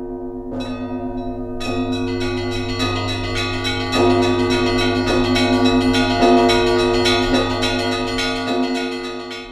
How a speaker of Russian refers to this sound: Еще одна неповторимая черта русского Рождества – колокольные звоны. Вот как пишет о них Шмелев. «И все запело, тысяча церквей играет, такого не услышишь, нет, не Пасха, перезвону нет, а стелет звоном, кроет серебром, как пенье, без конца начала».